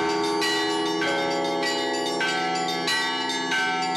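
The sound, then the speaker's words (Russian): Church bells ring out from a belfry during a bell-ringers' competition of the Orenburg metropolis, all the bells in use, in a dense, continuous peal, with fresh strikes every half second or so layering over long, shimmering overtones, loud. “Времени очень немного, но для того, чтобы задействовать все колокола звонницы, достаточно.”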